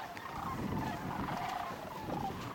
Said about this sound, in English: Cranes produce a very loud sound. They have a very long, convoluted trachea, kind of the same effect that you have with a French horn or something, with a long passageway for the sound that it kind of amplifies it, and it comes out very loud.